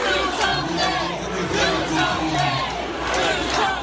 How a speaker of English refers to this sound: Do something, shouted agonized members of the crowd, infuriated by a weekend of violence in their state and in Texas that left 31 people dead and scores injured.